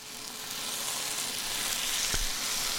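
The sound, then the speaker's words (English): Chicken for biryani sears in a hot pan with a steady, hissing sizzle that holds throughout, broken by a brief low thump partway through. No one speaks. “Sear off the chicken.”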